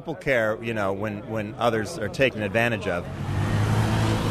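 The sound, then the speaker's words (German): A voice talks for a few seconds, then gives way to a steady rumble of cars pulling away, a broad engine and road noise that holds on to the end: Uber drivers getting back into their cars and driving off after an hour-long street protest. “Die Fahrer steigen wieder in ihre Autos und klinken sich in ihre Uber-App ein.”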